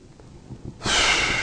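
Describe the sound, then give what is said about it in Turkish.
A voice makes a sharp puffing 'uf' exhale, imitated as an example, a sudden loud rush of breath after a quiet moment, held for about half a second. “yani suni öksürük, uf puflama gibi Allah korkusu dışında bir sebeple, yani okunan ayetlerin etkisi dışında bir sebeple ağlamak”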